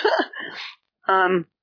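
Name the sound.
sneeze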